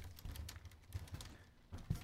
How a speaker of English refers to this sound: can you not type during a joke that bombs?